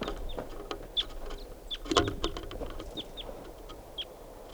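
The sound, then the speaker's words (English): A lone wild female bird, flying over the net site, gives short, high, sharp chirps at irregular intervals, about six or seven in all, over steady low rumbling background noise and scattered clicks. “And this is a wild bird, lone bird.”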